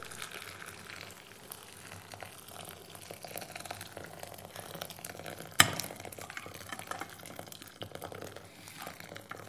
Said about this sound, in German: Auf einem Tisch steht eine große Glasschüssel, in die legt er die Tüte hinein. In einem Wasserkocher bringt er Wasser zum Kochen. Dann gießt er das heiße Wasser langsam in die Schüssel, in der die Tüte liegt. Rührt um.